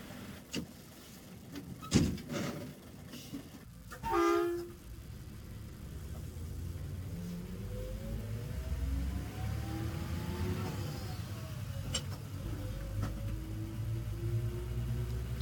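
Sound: bus arriving at stop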